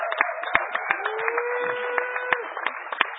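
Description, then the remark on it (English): An audience applauds steadily for the person who ran a microcontroller workshop in the Hackerspace Village, a dense crackle of many hands clapping for about three seconds, with a faint sustained whistle or whoop rising through the middle. Nobody speaks. “Also, give him a huge round of applause for the microcontroller workshop that he's been doing in the Hackerspace Village, bringing tons of huge.”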